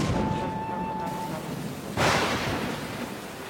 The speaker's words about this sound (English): Thunder!